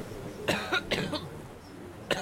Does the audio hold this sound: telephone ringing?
no